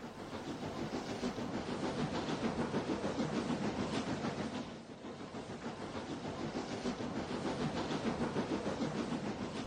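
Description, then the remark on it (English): Steady, dense rumble of rail traffic at the historic Union Station, with a rhythmic rattling texture and hiss, fairly loud, dipping briefly midway before continuing; no voices stand out. “Then I heard about the historic Union Station. So I went to see what it was like.”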